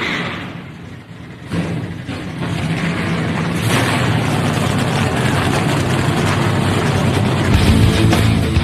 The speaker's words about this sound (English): Drivers, start your engines. The command has been given. Let's crank them up.